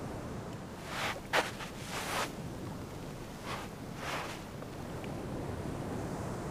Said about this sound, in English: The sound of the ocean and the sun setting over it, it's a rather calming sight.